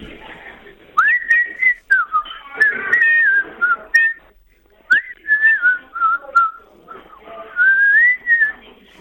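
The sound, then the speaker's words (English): A person in the Great Western Cafe whistles a wavering tune in three short phrases separated by brief pauses, the clear, fairly high notes sliding up and down, with faint clatter behind. “Give us a tune.”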